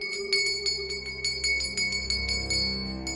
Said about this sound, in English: At one house, he rung the bell